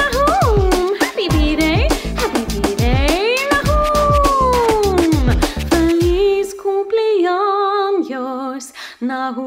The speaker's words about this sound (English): My dog says, awoo!